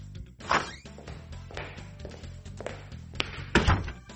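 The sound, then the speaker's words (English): A man opens a door with a thunk, takes a few footsteps into a room, and shuts the door again with a firmer knock. “Oh, a man is opening a door, walking into a room, and then closing the door.”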